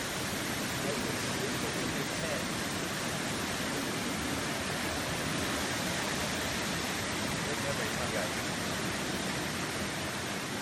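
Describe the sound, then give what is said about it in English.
A river at a remote camping spot rushes steadily and loudly, a dense, unbroken roar of churning water that holds at the same level from start to finish with no pauses. “I may have some video footage of this river. Is it working? This is what it sounded like.”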